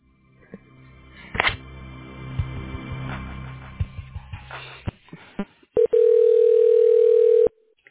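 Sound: telephone ringing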